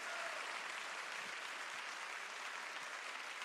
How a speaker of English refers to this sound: Amen? Why don't you give the Lord an applause right now?